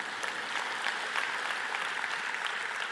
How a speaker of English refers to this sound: Clap, that's good.